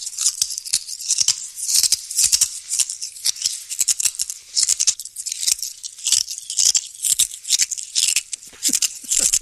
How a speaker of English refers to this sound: A man eating cicadas? Oh, it's eating glass. It's eating glass.